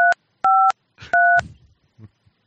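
Three crisp phone keypad dialing beeps, each a two-tone chirp, spaced unevenly, as a phone number is dialed with key tones left on; the last overlaps a brief burst of muffled voice, followed by a few soft faint bumps.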